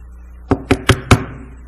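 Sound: knocking on a door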